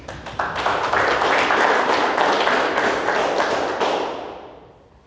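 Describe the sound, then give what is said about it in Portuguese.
A round of applause from a crowd at the opening of a council session, dense steady clapping that holds loud for about four seconds, then tapers off and fades out. No one speaks over it. “Convido a todos para salvar uma reunião nacional com salva de palmas e logo em seguida peço ao secretário que faça a leitura do texto livre.”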